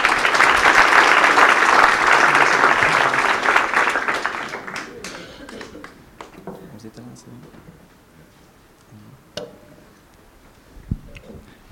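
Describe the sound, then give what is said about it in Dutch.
Dense, loud audience applause for the team AZC De Hoop after they narrowly won an exciting final and the cup fills the first few seconds, then gradually dies away, leaving a few scattered claps and small clicks over low murmuring. “Nou, applaus voor AZC De Hoop.”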